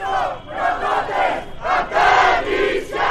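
A large crowd of local residents in the port city of Mytilene on Lesbos, Greece, chants together in loud, rhythmic bursts, many voices shouting in unison "Greek islands will not be turned to prisons" with brief pauses between phrases, sustained throughout, protesting the visit of EU Home Affairs Commissioner Ylva Johansson.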